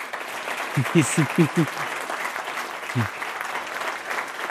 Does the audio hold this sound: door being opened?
no